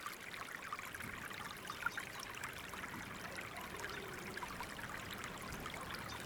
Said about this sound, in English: So silent. The only sound is the water trickling from the crack in the rocks. It flows into the pool.